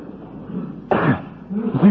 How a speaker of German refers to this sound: Es nützt nichts, du brauchst nicht zu husten, das hilft mir nicht.